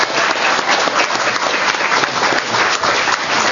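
Steady, dense applause from an audience for a physics scholarship recipient fills the whole stretch, a continuous wash of many hands clapping at an even, fairly loud level with no voices standing out.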